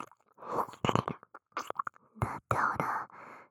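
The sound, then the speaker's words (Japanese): Wet, smacking mouth sounds of licking into the ear hole, in quick irregular bursts, soft and breathy, with whisper-like hiss between the wet clicks and no spoken words. “お耳の穴舐められるの好きなんだね。”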